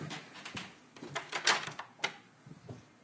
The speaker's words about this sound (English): Let me just make sure this door is locked.